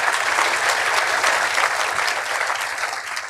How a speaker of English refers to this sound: So can we have a big round of applause and a big thank you to Bess Singler? Thank you very much.